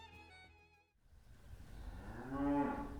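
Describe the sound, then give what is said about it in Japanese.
After a brief steady tone fades out, a cow on a dairy farm in Yufuin, whose milk is used to make cheese, lets out one long, drawn-out moo that swells louder toward the end, clear, with no talking. “牛たちが私たちの一生懸命なんか好奇心旺盛の目で見てますけれども、こちらの場所っていうのはどういう場所になりますか？”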